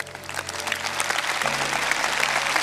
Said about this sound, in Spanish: Denle ese aplauso fuerte.